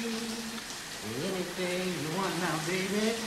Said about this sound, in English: … turns on a shower in the middle of the room and starts singing.